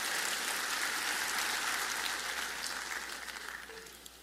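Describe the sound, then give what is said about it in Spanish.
An audience applauds for the Lord in a dense, steady wash of overlapping claps that holds strong, then gradually thins and fades toward the end, with no voices over it. “Un aplauso al Señor.”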